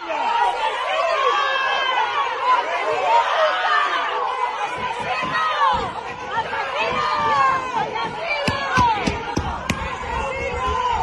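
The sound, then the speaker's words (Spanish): A large, agitated crowd of local residents shouts and yells over one another continuously, calling out "murderer" while surrounding a Guardia Civil car taking a detained man away, with a series of sharp thumps and bangs on metal near the end as blows strike the car. “Numerosos vecinos le increparon al grito de asesino rodeando el coche de la Guardia Civil que se lo llevó.”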